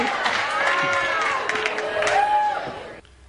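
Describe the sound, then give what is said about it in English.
An audience cheers loudly and steadily for about three seconds at the suggestion that Chad be the next Bachelor, with whoops and high shouting voices rising over the din, before the noise cuts off abruptly. “Who's cheering?”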